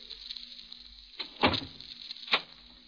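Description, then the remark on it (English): A door is pushed shut with a solid thud, followed about a second later by a sharp metallic click of the lock, against a faint steady hum. “Why lock the door?”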